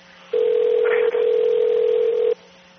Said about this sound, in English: I don't know why they're not picking up the phone over there.